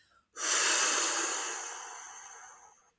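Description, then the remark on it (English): A single long, airy exhale through the mouth, starting abruptly and gradually fading over about two and a half seconds, fairly loud with no talking. “So breathing out through your mouth is really important.”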